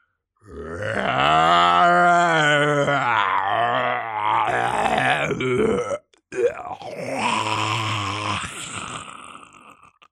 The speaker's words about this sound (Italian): Il suono del ruggito di un troll cacciatore fa gelare il sangue. Farebbe nascondere sotto le coperte perfino un gigante. Per i montoni addormentati fu come sentire una tigre inferocita.